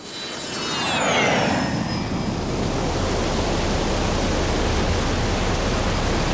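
Cold wind and rain in Dagestan, in Russia's Caucasus, roar in a steady, dense wash that swells in the first second, with a high whistling gust sliding downward early on. It stays loud and continuous, with no voices.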